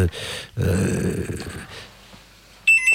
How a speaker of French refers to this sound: Il y a le téléphone qui sonne en direct, c'est pas grave, je décroche.